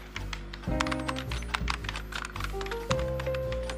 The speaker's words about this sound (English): types on a keyboard.